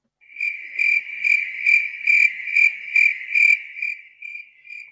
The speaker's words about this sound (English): That's right, crickets.